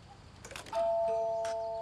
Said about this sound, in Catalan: A la ciutat, la Lily toca un timbre.